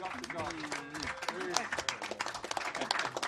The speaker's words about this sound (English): So let's give it a nice applause again for Dr. Julius Garvey.